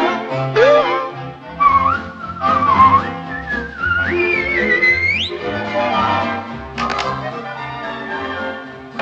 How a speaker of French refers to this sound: Quand le diable est là pour vous créer des embarras, sifflez vite, vite, sifflez vite, vite.